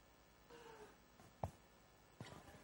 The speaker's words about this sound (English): I heard the Derwent Valley over you guys here. What was that? That was like a cat meowing in the background. I swear Lazarus, my cat, isn't here somewhere.